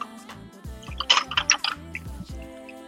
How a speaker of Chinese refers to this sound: 然后下面是把啤酒倒进冰块的声音